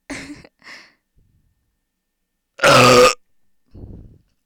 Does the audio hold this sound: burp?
yes